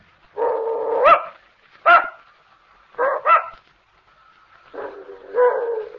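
An old female dog barks and whimpers in a string of about five drawn-out, whiny yelps with short pauses between them. No one talks.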